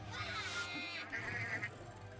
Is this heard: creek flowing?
no